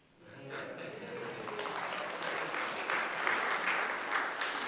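A large audience breaks into sustained applause with scattered cheers over the church supporting nine E3 teams, the clapping swelling quickly from near silence and holding steady and loud for several seconds.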